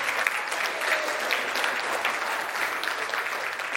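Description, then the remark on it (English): A standing church audience in a sanctuary bursts into sustained applause, a dense, steady wash of many hands clapping at full strength for several seconds with no pause or voices rising above it. “a rousing round of applause”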